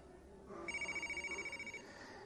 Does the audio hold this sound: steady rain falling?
no